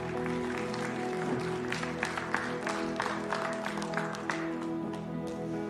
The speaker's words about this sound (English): You may be seated in here. You can give God a hand clap. Yes.